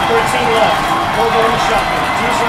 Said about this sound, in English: Listen to that crowd, fans. Listen to that crowd.